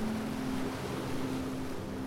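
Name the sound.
ocean waves crashing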